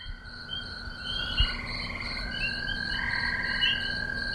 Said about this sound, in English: Those were the calls of three kinds of frog or toad. Frogs, toads, and other amphibians can absorb water through their skin.